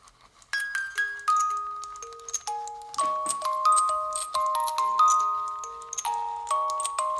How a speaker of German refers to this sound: Ich glaube, du könntest jetzt los machen hier. Ja? Ja, mit deinem Klingeling.